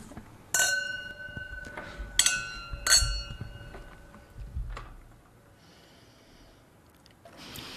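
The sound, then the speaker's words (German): Wine glasses clink together three times in quick succession in a toast at a wine tasting, each a bright ringing tone that lingers and fades, followed by quieter rustling and breathing with no talking. “Ich will nachher trotzdem noch mal schnell darauf zurückkommen, aber zuerst schon mal probieren. Prost miteinander.”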